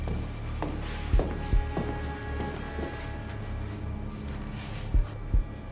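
A few soft, heavy footsteps of someone walking from a room to the door after picking up two notebooks thud against a steady low hum, two close together early on and two more near the end, with faint clicks and taps in between and no talking.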